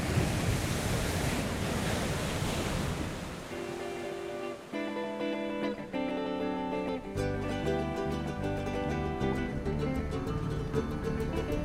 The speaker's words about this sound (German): Der Wind dreht, Böen wühlen das Meer auf. Dunkle Wolken bringen Regen.